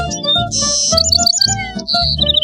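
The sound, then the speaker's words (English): Bright, high birdsong in a forest with quick repeated chirps and tweets, some short and clipped, others drawn out, over a steady low musical bed throughout. “Come meet bugs and birds.”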